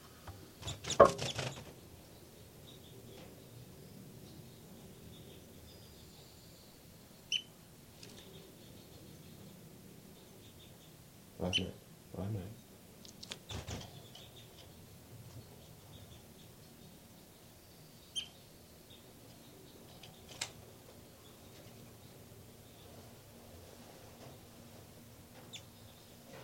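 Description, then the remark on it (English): Faint, high-pitched peeps from hatched baby birds calling in a nest come in a few sparse, brief squeaks, scattered among soft rustling and occasional louder thumps and bumps, with no talking. “Back to the nest. Where the baby birds are calling.”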